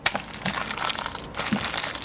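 Soap being put into a washing machine: a steady, gritty crinkling and rustling, like a packet being handled and powder pouring, lasting about two seconds with one brief pause and no voices.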